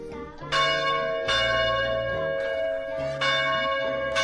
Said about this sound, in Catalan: Antigament, els campanars de l'església sonaven tota la nit per avisar que arribava el dia 1 de novembre.